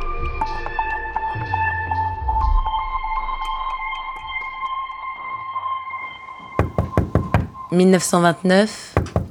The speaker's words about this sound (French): Paris. Lee Miller frappe à la porte de l'appartement de Man Ray.